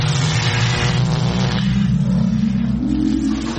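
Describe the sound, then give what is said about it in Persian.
A loud time machine travel effect: a steady, revving engine-like drone that climbs in pitch in a couple of steps, filling the whole moment with no one speaking. “بریم ببینیم آرتا امروز با این ماشین زمانش کجا سفر میکنه.”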